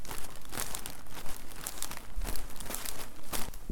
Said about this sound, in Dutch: De verpakking van de tulpen knispert behoorlijk.